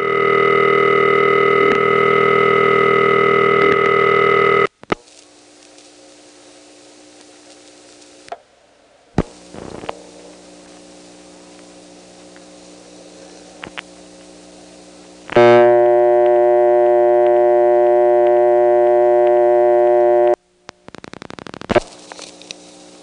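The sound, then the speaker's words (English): A steady telephone dial tone cuts off as the hook is flashed twice to reset a rotary dial test line; quiet stretches broken by mechanical clicks and a brief clatter of the rotary exchange switch resetting on the second flash, then the dial tone returns loudly and stops. “On the second pulse, you'll hear a rotary switch resetting, and then again, a very long pause with a click in the middle of it, and then finally the dial tone will return.”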